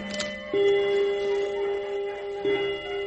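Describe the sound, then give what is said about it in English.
An old bone-white clock with gold angels around the face chimes, two resonant strikes about two seconds apart, each bell tone ringing on and overlapping the last, clear with no one speaking. “Oh, I love that old clock of mine. Old bone white clock with the gold angels round the face.”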